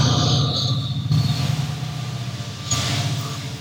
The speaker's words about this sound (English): That's the beginning of the train. And we're probably okay from here on if you don't mind the little low rumble. But that is. Yeah, I can. You can hear it in the background? Oh, I can definitely hear the wheels squeaking down the tracks.